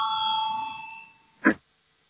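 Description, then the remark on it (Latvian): An electric bell rings to call a vote on proposal number 85, Deputy Pucens's proposal, with a steady, bright tone that fades out over about a second, followed by a brief, sharp knock. No one speaks. “Lūdzu zvanu balsosim par 85.”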